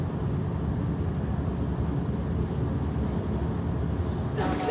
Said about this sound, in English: So this is Dessau, and this little train station, it's not really little, but it's so jammed and it, you know, takes a lot of time to switch to a different platform or train to Leipzig.